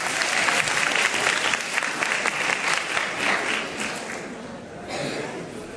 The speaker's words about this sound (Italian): facciamo un contratto, non parlerò più di 10 minuti, e un applauso perché non parlo più di 10 minuti.